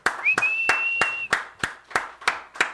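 Applause at the Courtyard Gallery's Thursday music and poetry night, in the form of steady, rhythmic claps, about three per second, with a sustained high whistle over the first second or so. No talking.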